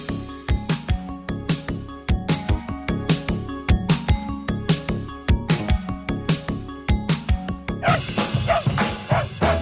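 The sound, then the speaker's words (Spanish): A dog barks in quick, steady, loud bursts over a rhythmic musical backing that continues throughout with no talking. “Nos acompañan a todas partes y con sus ladridos y el movimiento de la cola nos dicen muchas cosas.”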